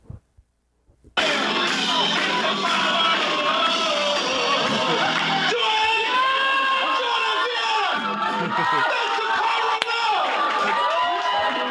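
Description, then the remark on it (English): After a brief moment of quiet, a large concert crowd bursts into loud, sustained cheering and screaming as a three-piece band's backing track ends mid-song, many voices blending into a dense roar that continues unbroken for about ten seconds. “they were playing to a backing track because they're only, like, a three-piece band. So they're playing to a backing track. that then ended”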